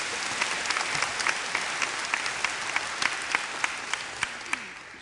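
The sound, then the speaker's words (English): Steady applause from a church audience for a team of church volunteers, a dense wash of many hands clapping with a few sharper claps standing out, continuing evenly for several seconds. “Let's clap for these guys.”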